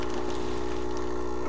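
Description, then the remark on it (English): A steady mechanical hum from an espresso machine brewing Illy coffee beans, with a constant low drone and strong tonal bands, plus a soft watery hiss and trickle layered on top as the machine leaks. No one speaks. “Probably hear the espresso machine.”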